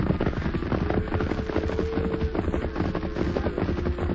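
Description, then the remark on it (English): A steady, dense clatter and rumble of many hooves drumming together without pause, with a faint drawn-out lowing tone rising now and then through the churning noise of a cattle herd being driven down a valley by cowhands. “If you listen, maybe you can hear the boys driving them down.”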